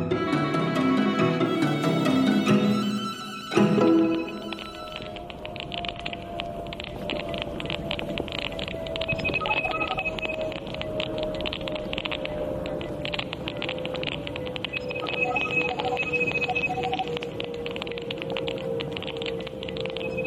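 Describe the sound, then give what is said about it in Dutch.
Electronic beeps and rapid clicking picked up by a hearing aid, recorded by British science journalist Frank Swain on a walk in his neighbourhood, over a steady windy hiss, opening with a few bright harmonic tones, then a sustained whining tone that slowly drops in pitch amid scattered faint higher pips. “Mysterieuze buitenaardse bliepjes? Nee, dit is het geluid dat de Britse wetenschapsjournalist Frank Swain opnam tijdens een wandeling in zijn buurt.”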